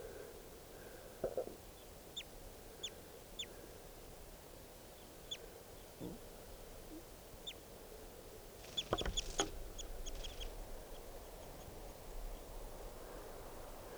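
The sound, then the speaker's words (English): Short, sharp chirps from wild birds ring out one at a time over a low outdoor hum, with a brief cluster of calls in the middle, with no talking. “So recording, there's some other birds here, including lots of two birds, and there's one in the net, and here's the other one.”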